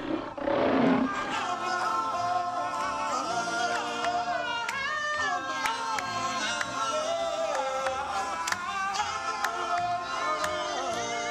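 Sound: lion roaring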